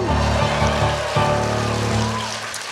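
An audience at an improvised musical in a theater applauds in a steady, dense patter that fades slightly toward the end, while the show's keyboard player plays sustained chords underneath.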